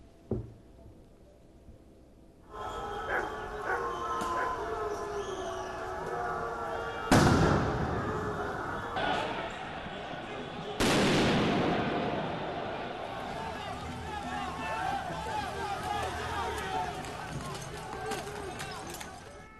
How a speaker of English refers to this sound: Security forces fired tear gas to disperse the crowd.